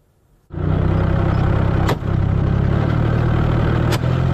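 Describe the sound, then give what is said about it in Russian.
A Russian army remote mine-laying vehicle's engine starts up abruptly and runs with a loud, steady, low rumble while laying barriers. Two brief sharp bursts cut through the drone about two seconds apart. No voices. “Это кадры работы машины дистанционного минирования российской армии.”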